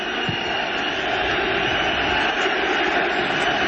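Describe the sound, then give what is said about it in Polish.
A large stadium crowd at a Polish league football match between Lech Poznań and Pogoń Szczecin on 2 April 2005 whistles together, a steady, loud, shrill roar of overlapping whistles that holds without pause for the whole stretch, with no voices standing out. “Słyszycie gwizdy?”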